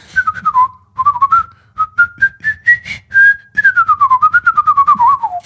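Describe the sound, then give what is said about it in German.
Someone whistles a melodic line imitating an oboe tune, with notes that step upward, hold, then glide down in a descending run; clear and steady, with no talking. “Und du kannst es schlecht pfeifen. Die Oboe ist kein gutes Pfeifinstrument.”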